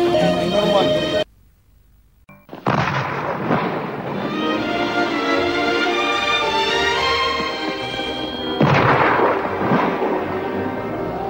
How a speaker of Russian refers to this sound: Война еще не кончилась, но победные салюты то и дело гремели, отмечая взятие Красной Армии российских городов.